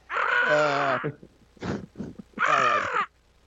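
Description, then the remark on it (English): A person imitates a crow with two long, harsh, drawn-out caws, loud and raspy, separated by a brief gap filled with a few short throaty noises. “That's a crow.”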